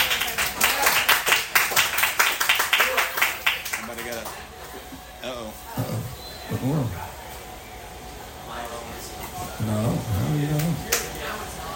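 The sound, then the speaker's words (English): A burst of audience applause welcoming the head coach of the Frederica Academy Knights, many hands clapping in a dense, loud patter for about four seconds, then fading away as voices begin talking over a quiet background. “So they just applauded for you.”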